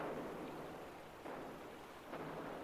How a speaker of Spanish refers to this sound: Cañonazo